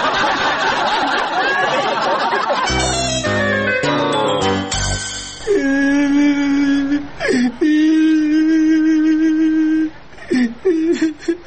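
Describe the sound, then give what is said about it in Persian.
A boy cries and whimpers in long, drawn-out wailing sobs broken by short catches of breath, loud, with a burst of muffled chatter and scuffling before the crying starts. “او باچه جان چرا گریه میکنی ها؟”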